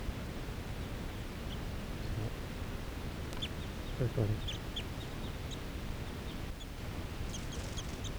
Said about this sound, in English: Oh, yeah, some crossbills sitting right here in the trees.